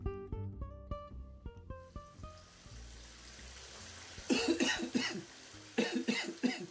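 Two bursts of harsh, close coughing, several coughs each, break out over a soft wash of running water, following a few short electronic tones at the start.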